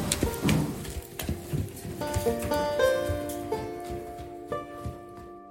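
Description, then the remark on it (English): A Mustang, bought as a wild horse, shifts and moves, hooves thudding and clopping irregularly, with breathy snorts and faint creaking in the background. “And I just want this horse to know that he's safe with me and that we're going to be friends for a long time.”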